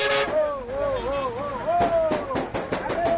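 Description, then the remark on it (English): Harare Central bus terminal at evening rush hour: voices, including a bus attendant calling passengers, call out in wavering, sing-song tones over engine rumble and sharp bursts of hiss and clatter, loud throughout. “It is evening rush hour at this Harare Central bus terminal.”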